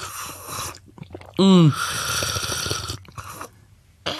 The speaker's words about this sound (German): Komm, wir schlürfen noch ein bisschen ins Mikro, das macht Spaß.